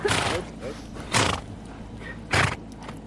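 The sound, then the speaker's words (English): Horses race past in three loud, rushing surges of hooves and breath, each lasting a fraction of a second, separated by brief quieter gaps with a low rumble underneath. “The horses are racing by. I can hear them, yeah.”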